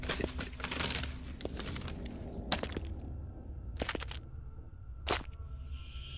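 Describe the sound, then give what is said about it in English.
A paper bag full of poisoned meat for rats crinkles and rustles, a dense flurry of handling at first, then a few sharper isolated crackles spaced apart as it's squeezed again. No one speaks. “And so he returns, Abner the Sinner, with a paper bag full of the rat's deadly dinner.”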